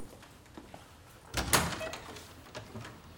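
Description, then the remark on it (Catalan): Someone crosses a dining room to the door, which opens partway through with a short rattling, sliding rush of noise, moderately loud, followed by a few faint knocks; otherwise quiet. “En Gerard travessa el menjador cap a la porta.”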